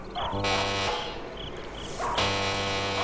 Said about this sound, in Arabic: هذا هو بيت الحاج مرتضوي، لأدق الجرس.